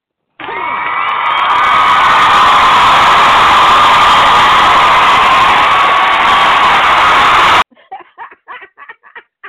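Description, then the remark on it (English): A loud crowd cheers and shouts continuously for about seven seconds, a dense roar of many voices with whoops, then it cuts off abruptly and a few brief voices follow. “Y'all hear the crowd?”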